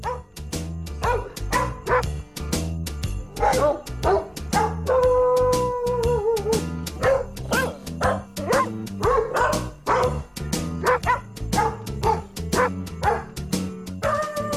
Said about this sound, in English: By the …, where it's just nothing but barking.